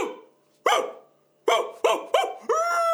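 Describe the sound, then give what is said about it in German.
A man imitates a barking dog as a demonstration for a doctor: one loud bark, a pause, then three quick barks in a row ending in a drawn-out, howling bark, loud with no other talk. “Hören Sie auf! Sie bellen ja tatsächlich wie ein Höllenhund.”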